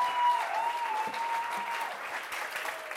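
Steady audience applause fills the whole stretch, a dense wash of many hands clapping at a fairly even, moderate loudness, with a faint thin tone lingering underneath.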